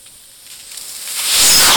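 A bung pulled from the bunghole of a Texas wine barrel, heard as a soft airy hiss that steadily swells into a loud, bright rush over under two seconds, with no voices.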